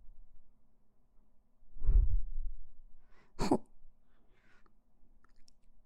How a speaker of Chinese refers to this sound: 怎么打喷嚏了呀？